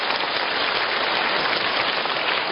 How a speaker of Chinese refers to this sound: 你们一鼓掌，台长就吃客了。你不要鼓得太多。